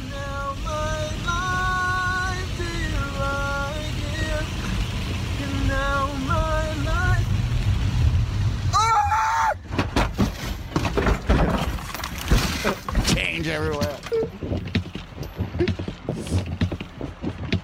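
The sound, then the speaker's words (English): A sleepy gamer sings drowsily over a low engine rumble, then the singing breaks off into a loud, chaotic series of crashing thumps and rattles as he rolls his car, an empty Gatorade bottle in the back seat hitting the ceiling each time the car spins, with his voice heard among the impacts. “But if you were ever wondering what a sleepy singing gamer sounds like when he rolls his car, let's end this week of the Mike O'Mara Show with the sound of that.”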